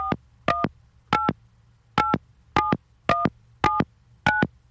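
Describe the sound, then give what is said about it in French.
A rapid series of telephone keypad tones as a number beginning with 1 is dialed, eight short beeps in quick succession, each a steady dual-pitched electronic tone over a low background hum, with no voices. “J'ai fait le 1, là.”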